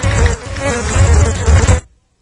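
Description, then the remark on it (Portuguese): A loud, dense swarm of buzzing bees, played from a sound-effect disc, drones steadily with a low, rough hum for nearly two seconds, then cuts off abruptly into silence. No voices are heard. “Por favor, técnica, tire esse disco de efeito de abelhas.”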